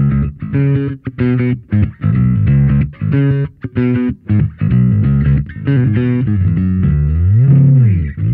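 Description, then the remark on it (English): A bass guitar played through a gritty overdrive pedal, plucking a choppy riff of short punchy notes before settling into a sustained, bending phrase near the end, loud with no talking. “Yeah, we've used it for drive at some point, and for some of the record, I use the same one for some of the drivier tones.”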